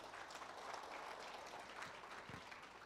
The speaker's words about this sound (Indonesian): Jadi produknya Atomy yang sudah diakui dunia. Sangat luar biasa. Tepuk tangan buat Atomy.